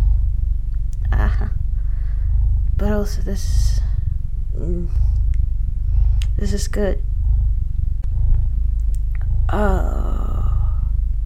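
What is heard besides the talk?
cat purring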